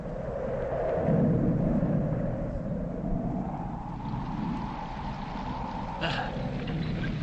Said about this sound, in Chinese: 马车备好时，天空黑云密布，闪电大风带来了雨。